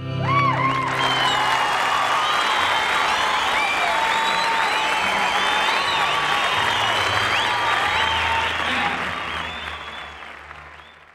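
An audience applauds in a dense, steady wash of clapping with a few whoops and cheers on top, holding loud for most of the stretch before thinning and fading toward the end.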